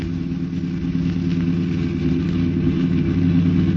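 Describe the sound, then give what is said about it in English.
A car engine roars steadily, a loud, sustained mechanical hum with a faint rising strain, as if pushing to speed up, as the car pulls up alongside another car to force it to the curb. No voices are heard. “Well, pull up alongside and force him to the curb.”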